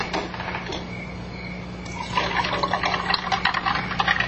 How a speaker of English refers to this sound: Pour me some lemon squash, would you, dear?